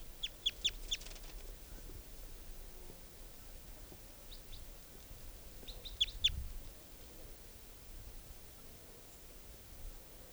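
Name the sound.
juvenile bird calls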